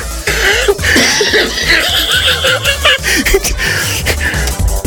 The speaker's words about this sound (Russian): А мне что-то в горло попало, я кашляю, видите.